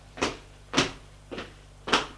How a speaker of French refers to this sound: Frappe à la porte.